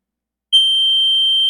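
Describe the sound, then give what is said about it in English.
After a brief silence, a single high G6 note sounds and holds steady for about a second, a pure, piercing, whistle-like tone at constant loudness with no voices. “And then a G6.”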